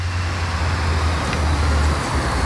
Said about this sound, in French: Bon, je crois que ton tram est arrivé.